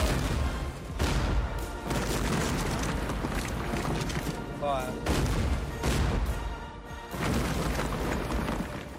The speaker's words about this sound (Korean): 이어 영국 해군은 군함에 있는 대포로 요새를 파괴한다.